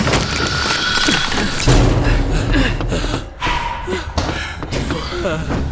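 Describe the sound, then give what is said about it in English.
A heavy door creaks and then slams shut with a deep, booming thud, set against a dense, noisy background with some faint vocal sounds. “The door.”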